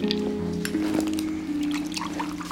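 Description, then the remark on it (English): A big measure of whiskey is poured into a glass in one steady stream, the gurgling tone rising slightly as the glass fills, with no voices. “She sits down at the other end of the sofa as he pours himself a big measure of whiskey, then takes a sip.”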